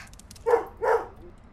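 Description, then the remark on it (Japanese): Two short, sharp dog barks in quick succession, clear, with a quiet background and no talking. “この犬、もしかしてすごく賢い？”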